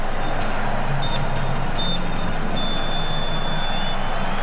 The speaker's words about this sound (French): Quatre coups de sifflet au total. Le match est terminé.